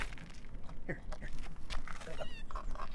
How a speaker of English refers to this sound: That's got a really strange meow. I thought it was hissing, but it was just going like...